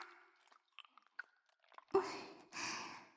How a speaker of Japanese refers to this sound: ダーリンの指もぐもぐしちゃおっか